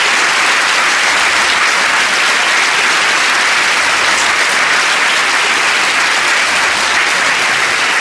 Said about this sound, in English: Can we have a hearty, warm round of applause?